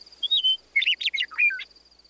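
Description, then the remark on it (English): A meadowlark sings at the Heart of the Monster, a small rocky butte at a national park site in the Kamiyai Valley of north central Idaho: a short, bright phrase of clear whistled notes that slide and warble, rising and falling in quick succession, with a steady faint insect-like hiss underneath and no voices. “Meadowlark continues to sing there today.”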